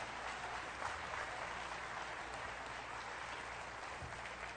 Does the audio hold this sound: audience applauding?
yes